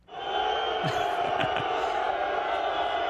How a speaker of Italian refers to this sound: Giù fischi allora per il povero Marco.